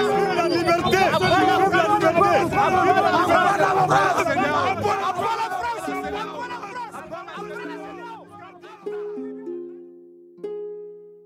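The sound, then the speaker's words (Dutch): A large crowd in Niger chants and shouts the anti-French slogan "à bas la France" (down with France), many overlapping voices forming a loud, dense roar that thins out toward the end, leaving a few sustained voices. “En onderwijl werd gezongen of gescandeerd à bas la France, dus weg met Frankrijk.”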